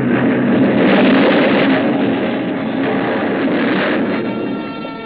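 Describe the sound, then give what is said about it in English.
A loud, sustained roar of a ship crashing onto a reef in fog amid an explosion, a dense rumbling wash of noise that holds steady for several seconds with no voices. “The force of the explosion hurled me into the blood-warm waters.”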